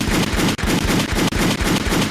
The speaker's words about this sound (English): I got a whole bunch of gunshots.